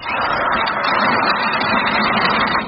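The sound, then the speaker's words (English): A dentist's drill whirs continuously for a few seconds, a steady, loud, buzzing mechanical drone with no pauses or change in pitch, and no voices over it. “Nurse, the drill, please.”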